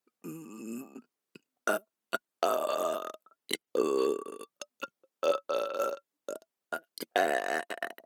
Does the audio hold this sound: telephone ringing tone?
no